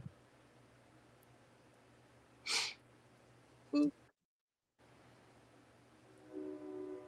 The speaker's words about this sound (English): There's the train.